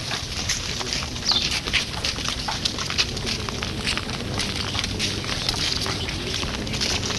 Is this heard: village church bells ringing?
no